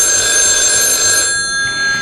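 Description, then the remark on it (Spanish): A telephone bell rings steadily and loudly for about two seconds, a bright, continuous metallic trill heard alone, with no voices over it. “Pues el domingo vimos unas fotos de Sánchez muy preocupado al teléfono.”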